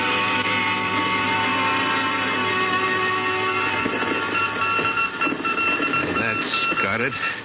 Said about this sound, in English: Started on voice and switched to Morse.